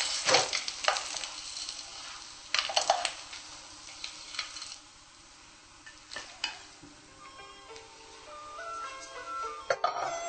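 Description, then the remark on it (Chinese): Fish, fried golden on both sides to make crispy fish, sizzles steadily in a frying pan, a soft continuous hiss broken by a few sharp scrapes and clinks of a utensil against the pan. No one speaks. “好，这条鱼呢已经煎好了，这个酥鱼已经煎好了，先放在一边。”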